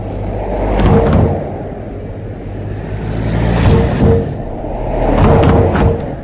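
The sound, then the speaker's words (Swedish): Cars roll past one after another over a road speed bump, each passing swelling into a loud low rumble with a brief thump as the wheels go over it, recorded with a microphone placed right beside the bump. “Men först, hur låter fartguppet egentligen i radion om man lägger mikrofonen alldeles bredvid när bilarna kör över?”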